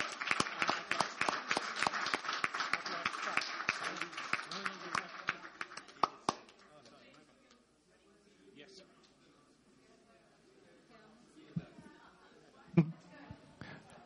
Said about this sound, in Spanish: Por favor, los intérpretes que tienen un trabajo enorme, un aplauso.